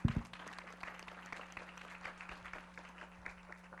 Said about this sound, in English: I think you really deserve warm applause for the presentation.